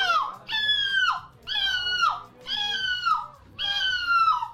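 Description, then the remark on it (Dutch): A seagull calls four times in a steady series, each cry a loud, nasal, drawn-out wail that slurs downward at the end, with faint background noise and no talking. “Dit is het geluid van een meeuw.”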